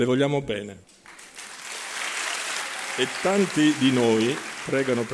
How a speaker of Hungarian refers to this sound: Nagyon szeretjük Önt, mondta a lelkész, miközben szavait a hívek tapsa erősítette meg.